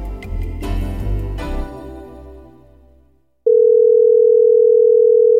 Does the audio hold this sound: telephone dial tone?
yes